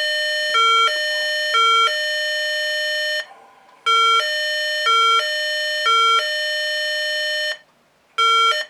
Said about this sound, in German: In einem PIC-Schaltkreis sind immer zwei Sounds integriert bzw. programmiert. Der erste Sound, den ich vorführen will für dieses Beispiel, ist das Martinshorn mit etwas anderen Noten.